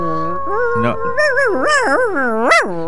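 A dog vocalizes in a long, wavering howl-like whine that rises and falls in pitch for about three seconds, fairly loud, with a sharp upward swoop near the end.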